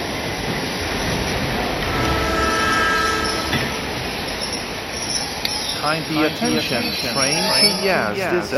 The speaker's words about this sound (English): Kindly attention, train to Yazd is arriving on time at platform number 4.